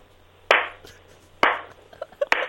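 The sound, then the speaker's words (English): Three slow, evenly spaced hand claps, each a sharp, loud smack with a short ringing tail, about a second apart, over a low steady hum with no talking. “Notice I didn't clap very fast. I clapped slowly.”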